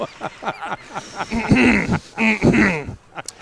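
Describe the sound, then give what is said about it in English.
A short, bright news cue jingle plays on its own, with quick rhythmic bursts opening into two sustained tonal swells, loud, ending in a brief sharp accent. “I think that's the cue. Yeah, that's the news cue or what?”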